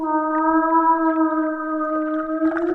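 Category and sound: animal, whale call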